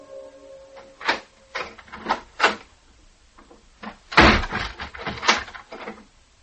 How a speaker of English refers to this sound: A door slammed like a blow. Feet thudded angrily down a stair and kept on thudding towards my door.